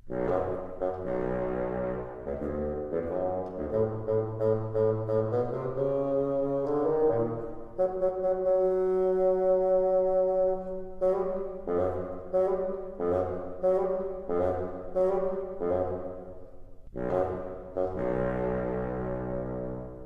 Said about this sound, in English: Peter's grandfather is represented by the bassoon. Can you hear his stern voice?